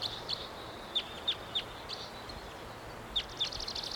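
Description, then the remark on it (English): An unseen wild bird of unknown species calls from up in the high treetops with a series of sharp, high-pitched chirps at an irregular pace, some notes paired close together, over a steady faint background hiss. No one speaks. “Wild bird. Not sure which one this is. Don't see it. Up in the high treetops.”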